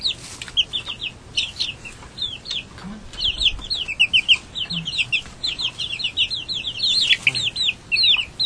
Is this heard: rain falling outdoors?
no